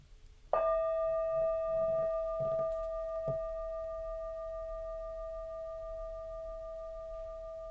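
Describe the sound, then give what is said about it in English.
A meditation bell is struck once to open a three-minute breathing space practice, its clear mid-pitched tone ringing out with shimmering overtones and slowly fading over several seconds. A few soft muffled bumps sound early on; no one speaks. “The first step is to pause, which the sound of that bell, or perhaps even playing this recording, may have inspired you to do.”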